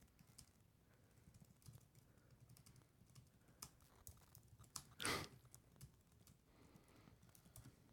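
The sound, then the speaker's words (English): Someone types a tweet on a computer keyboard: a steady patter of quick, irregular key clicks, fairly quiet, with one louder clatter partway through. No one speaks. “Are you still typing?”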